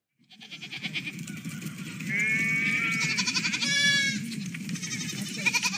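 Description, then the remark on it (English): A sheep bleats loudly, two or three wavering cries in a row, over a steady low rumbling background noise. “No sheep were harmed in the recording of this podcast.”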